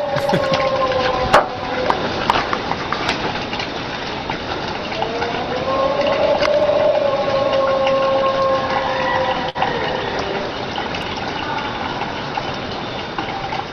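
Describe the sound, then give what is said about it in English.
A long, wavering howl rises and slowly falls in pitch, carried over a steady rush of water from a running shower and hiss, with a few faint clicks and a higher-pitched sound joining near the end; no one speaks. “called the Trent vocal, which I had never heard. And there's some similarities here with the Ohio Howl”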